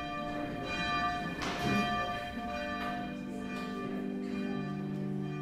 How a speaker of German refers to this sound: Um 8 Uhr läutet die Glocke zur Morgenandacht.